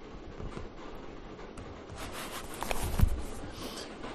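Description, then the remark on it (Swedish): A male European nightjar churring on a summer night in the forest: a steady, dry, mechanical, far-carrying purring trill that runs on without a break, fairly faint, with a slight swell in loudness toward the end. “Hanen låter höra ett vittljudande, knarrande och spinnande.”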